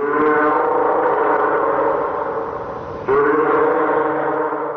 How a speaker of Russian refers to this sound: Морской котик.